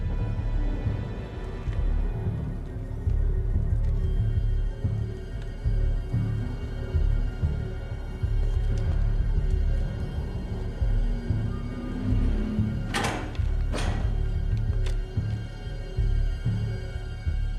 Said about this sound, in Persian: شلیک موشک های رهگیر 8 دقیقه.